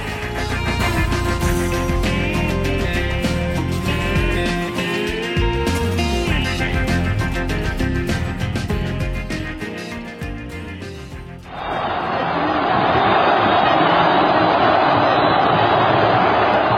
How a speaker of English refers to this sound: Sound behind us there from February 11th, just last year. Vast, euphoric crowd gathered in Cairo's Tahrir Square, celebrating the news then that Hosni Mubarak, the longtime dictator, had resigned